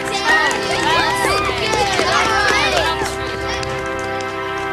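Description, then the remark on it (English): A group of young club members cheers and whoops enthusiastically in approval of remarks about the go-kart they built as a team, many overlapping rising and falling shouts blending into a loud, steady wall of excited noise for the whole stretch. “The club members showed their approval of Teddy's remarks by cheering enthusiastically.”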